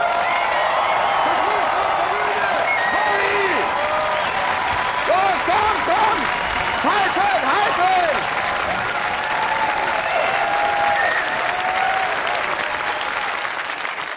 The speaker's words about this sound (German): Aber jetzt, bereitet euch vor. Leipzig, wie klingt ein 10-Punkte-Applaus bei euch?